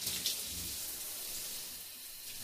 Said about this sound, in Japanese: 泡が残らないようにしっかり流していきますよ。